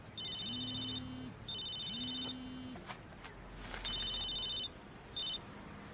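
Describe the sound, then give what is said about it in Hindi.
A mobile phone rings in repeated electronic bursts, a steady tone pattern recurring about four times over several seconds, clear with faint background noise and a couple of soft clicks. “अरे तुम्हारा फोन बज रहा है।”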